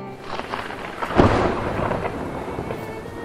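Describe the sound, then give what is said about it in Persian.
A deep thunderclap breaks about a second in, then rolls on as a low rumble beneath a steady hiss of falling rain. No one speaks. “میشنوی صدای آسمونو؟ آسمون که میگرفت، صدای رعد و برق که میومد”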